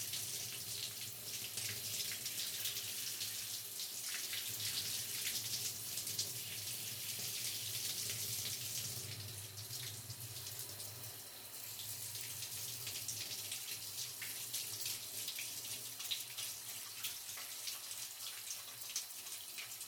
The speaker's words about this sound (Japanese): シャンプー終わりましたので一旦シャワーで流しちゃいますね。シャワー、熱くないですか？